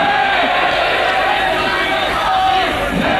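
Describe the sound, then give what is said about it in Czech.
A crowd of about 3000 at a rally in Litomyšl on 26 November 1989 shouts back in unison to doctor František Zeman, a loud, dense roar of many voices that stays steady for about three seconds with no single voice standing out. “Takhle dav odpověděl litomyšlskému lékaři Františku Zemanovi.”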